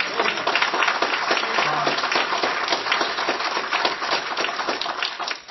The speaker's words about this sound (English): And give a round of applause and say thank you to the Lord.